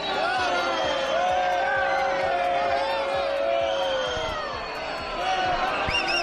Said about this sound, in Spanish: Por lo demás, el rey Felipe VI ha acudido este domingo a la corrida de toros de la Asociación de la Prensa de Madrid, que cierra la Feria de San Isidro. Lo ha hecho en compañía del ministro de Cultura, Miquel Iceta, que ha sido recibido con abucheos.